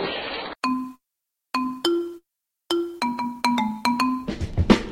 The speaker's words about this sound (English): I gotta call, my cell phone's ringing. Might be the president looking for me.